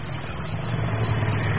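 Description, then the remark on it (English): A motorbike bumping along a woodland path, its engine rumbling steadily with a low, throaty drone, holding fairly loud throughout the short stretch, with no voices. “But before Dick could go off with the two girls, there came the sound of another motorbike. And then a third, bumping along the woodland path.”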